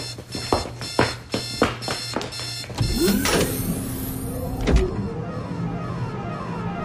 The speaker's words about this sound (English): Kill the alarm.